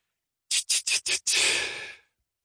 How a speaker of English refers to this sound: Big Mama draws a breath like a dying gasp.